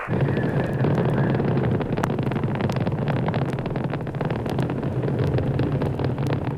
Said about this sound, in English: 10, 9, ignition sequence start. 6, 5, 4, 3, 2, 1. 0, all engine running. Liftoff, we have a liftoff. 32 minutes past the hour. Liftoff on Apollo 11.